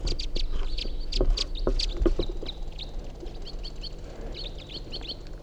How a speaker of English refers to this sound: They're white-winged crossbills. One of them's a male white-wing.